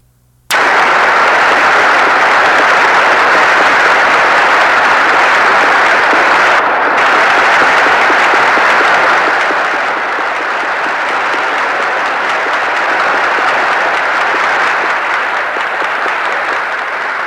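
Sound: applause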